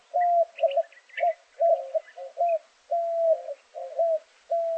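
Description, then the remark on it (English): A white-winged dove coos steadily from atop a saguaro cactus on a morning in southern Arizona, a rhythmic series of hooting phrases with brief pauses between them, clear against a quiet background with no voices. “It's morning in southern Arizona, and a white-winged dove coos from atop a saguaro cactus.”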